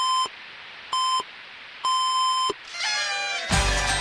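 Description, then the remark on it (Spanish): The midnight time signal of the radio station Nacional during the holiday season, marking the moment to celebrate and toast: two short, steady, mid-pitched tones and a longer final one, then a burst of warbling, rising tones and a loud wash of noise. “Durante décadas, la radio le dijo a miles de familias que era el momento de festejar.”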